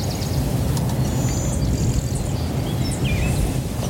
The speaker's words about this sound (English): That's the blue-winged warbler. Yeah, I thought so. Yeah. Is that what I heard? Yeah, the blue-winged warbler.